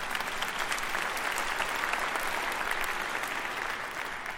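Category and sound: crowd, audience applause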